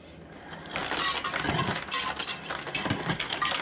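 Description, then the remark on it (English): A refrigerator dispenser whirs steadily while ice cubes clatter and clink out in a continuous, rattling stream for several seconds, with no one speaking. “You can see that the refrigerator is turned on if I wanted to get ice.”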